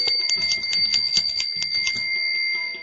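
The bangles of the Gopis tinkle as they splash Krishna with water, a quick, irregular stream of bright metallic clinks over sustained high ringing tones. The jingling stays moderately loud throughout and eases off slightly at the end, with no voices.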